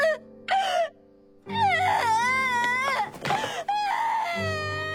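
A teacher cries and sobs loudly, voice wavering and breaking into drawn-out wails with short catches of breath between, continuing for several seconds.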